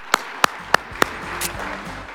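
Four sharp hand claps in a steady, even rhythm, followed by a soft, fading wash of noise. No one speaks.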